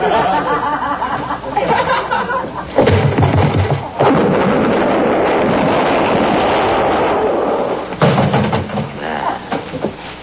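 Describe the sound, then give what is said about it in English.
Three loud, booming gunshots ring out a few seconds apart in a shootout, each one a sharp burst that rolls into a noisy, echoing tail over a busy background. “You not hit, Enoch? No, he missed me.”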